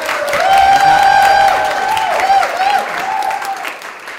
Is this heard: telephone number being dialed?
no